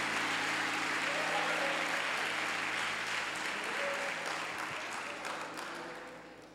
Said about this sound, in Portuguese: Então, se você gostou da profecia e quer trabalhar, aplauda Jesus, viu? Aplauda Jesus.